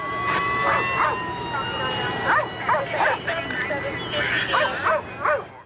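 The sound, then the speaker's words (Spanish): A police dog brought by a Prince George's County officer barks and yelps in quick, uneven bursts while searching in the dark, several loud barks in a row, over a faint wailing siren tone in the background. “Un oficial del condado de Prince George llegó con un perro policía y comenzó a buscar a McLean en la oscuridad”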